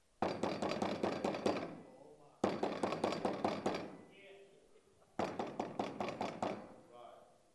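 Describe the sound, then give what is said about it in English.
Three rapid bursts of knocking, each a quick run of about ten sharp raps lasting a couple of seconds, loud, with short pauses between the bursts. “That keeps on knocking.”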